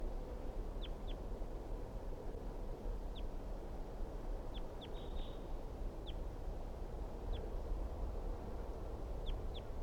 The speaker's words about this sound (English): So recording, I can see a wild bird perched up on the top of a dead tree nearby, and it was calling. That was 350. Recording, this is the wild bird.